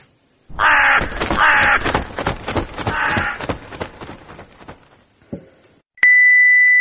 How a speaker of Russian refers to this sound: Ворон каркнул: «Отсоси».